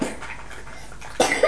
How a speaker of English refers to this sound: Oh dear, madam, that's a very, very bad cough you've got, isn't it?